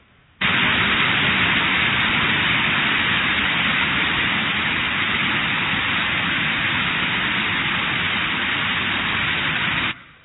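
Waterfalls coming down into a clear lake roar in a steady, unbroken rush of water from a played video clip, a dense hiss that starts abruptly, holds at an even loudness for about nine seconds, then cuts off just as suddenly.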